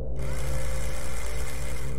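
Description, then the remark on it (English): A loud, steady mechanical whirring from the broken engine of a wrecked, dented disc-shaped craft lying on its side in a garden, droning with a low hum and bright rasping overtones for about two seconds with no voices. “The broken engine made a loud mechanical whirring sound.”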